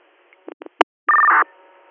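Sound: radio dispatch paging tones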